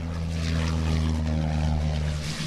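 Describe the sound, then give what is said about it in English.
The propeller engine of an unmanned U.S. military drone drones steadily and loudly with strong low harmonic bands as it gets ready for takeoff in the Seychelles Islands off East Africa, with no voices. “So it looks like we're getting ready to take off now.”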